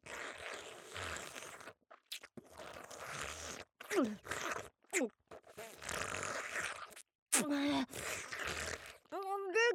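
A loud, drawn-out burp rasps close up, broken into several gravelly bursts with short pauses, ending in a deeper, croaking belch.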